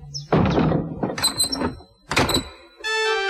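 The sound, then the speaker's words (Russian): A wooden shed door thuds shut, followed by rattling clunks and a short metallic scrape as the lock is worked; no voices are heard. “Эмиль плакал, только пока папа не запер за собой дверь сарая.”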